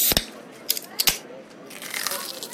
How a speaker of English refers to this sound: Person opening a can,